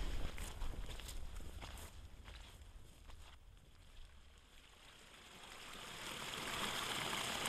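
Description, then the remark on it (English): Steady footsteps crunch along outdoors as people keep walking, with a soft wash of wind and flowing water in the background that swells toward the end. “Let's keep walking.”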